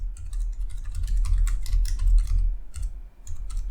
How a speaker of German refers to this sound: Mir fällt gerade was ein, was ich noch notieren müsste. Hallo, ich würde gerne tippen. Auf meiner Tastatur, auf meinem Dingensbummens.